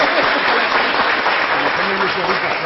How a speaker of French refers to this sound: C'est notre ami … que nous allons applaudir tout de suite d'abord. Hein, applaudir.